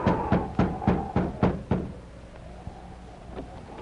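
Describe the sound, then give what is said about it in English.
Six firm knocks rap on the wooden front door of a cabin in a quick, even rhythm, followed by quiet with a faint creak or thud. “I'll go and knock on the door.”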